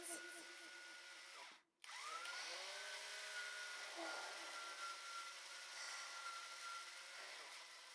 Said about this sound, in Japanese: ほら、あなたが欲しいのはこの音。ドリル、くるくるくるくる、キュイキュイ。